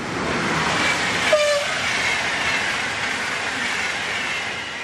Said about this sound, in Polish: Jak państwo słyszycie, jesteśmy tuż przy linii kolejowej biegnącej z Poznania do Berlina.